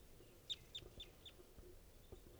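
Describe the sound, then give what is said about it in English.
A wild female bird gives a quick run of four short, sharp clucks at a steady pace, then falls quiet, with low rumbling background noise and a faint call or two afterward. “Stop. Here's a wild bird.”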